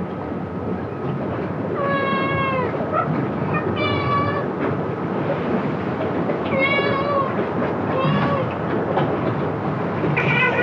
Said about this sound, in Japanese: まるまると太った親子猫3匹が出迎えてくれました。